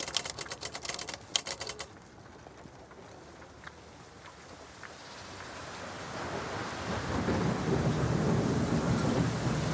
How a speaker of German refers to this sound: Januar 1925, New Jersey, USA. Schwere Regentropfen fallen auf das graue Kopfsteinpflaster.